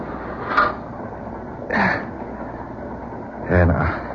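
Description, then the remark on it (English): A freight train boxcar with its door open rolls along with a steady, low rumbling clatter, broken by three brief, louder bursts of sound spaced across a few seconds. “Boxcar and open door. Made it just in time.”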